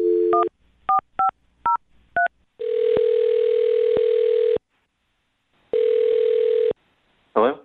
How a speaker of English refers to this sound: I'm going to dial his phone number right now and see if we can find out why he's not calling you back, okay?